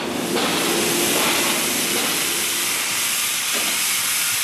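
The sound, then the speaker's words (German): A steam engine hisses loudly and continuously, with a rough mechanical chugging under the roar of escaping steam. No one speaks. “Den ganzen Rumpf, die Feuerkraft durchzittert, er ächzt und siedet, zischt und hackt im haßgen Dampf und Eisentakt.”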